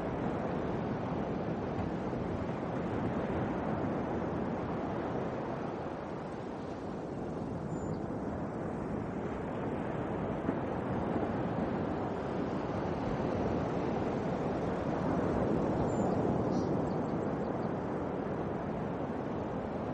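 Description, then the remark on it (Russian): Steady howling wind with crashing, churning sea surf in a dark storm at sea, a dense continuous storm wash that swells slightly at times, loud with no voices. “Вы слышите отчетливо вой ветра.”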